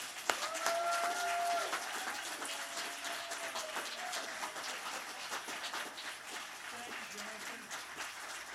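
A crowd in Hudson Falls applauds a band steadily for several seconds, dense clapping with whoops and a brief whistle-like cheer near the start, staying loud throughout.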